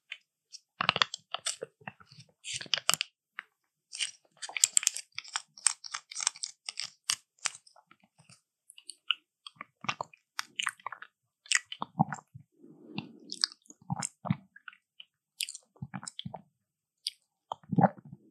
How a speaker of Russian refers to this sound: Ты что-то пьешь? Ну да, типа того. Йогурт какой-то. Да, жидкий йогурт. Класс. Я наконец-то отгадал йогурт с третьего раза.